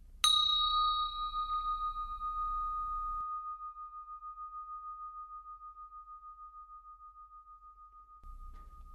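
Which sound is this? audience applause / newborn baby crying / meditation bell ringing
meditation bell ringing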